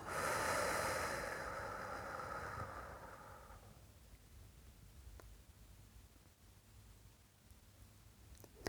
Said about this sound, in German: Ein letztes Mal atmet durch die Nase ein, durch den offenen Mund aus.